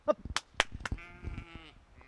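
A sheep on a sheep ranch in the small town of Joyce, Washington, lets out a wavering, drawn-out bleat after a few sharp knocks and rustles, with no one talking.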